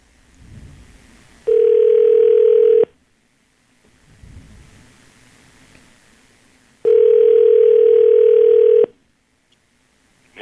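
A steady, loud telephone tone sounds twice, each lasting about two seconds, separated by a few seconds of low rumbling noise, as a phone call is placed. No one speaks.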